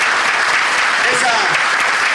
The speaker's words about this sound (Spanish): es mi candidato a intendente y el candidato de todos ustedes, a quien le podemos brindar un fuerte aplauso a Ricardo, que si Dios quiere va a ser el nuevo intendente el 10 de diciembre, ¿cierto?